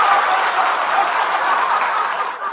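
A live show audience applauds steadily, a dense, even wash of many hands clapping at once that holds at a constant level throughout, with no voices breaking through.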